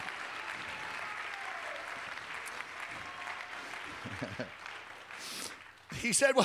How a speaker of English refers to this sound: Today, let's clap our hands. Let's lift up a voice. Let's magnify God.